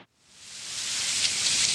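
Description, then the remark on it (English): Heavy rain pours down in a canyon in a dense, steady hiss that swells quickly after a brief pause and then holds loud and constant, with no voices. “What we don't know is that up canyon from us, as it's starting to rain heavily now, the canyon is collecting a massive amount of water, and that's moving our way.”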